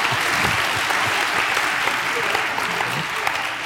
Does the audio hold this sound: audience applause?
yes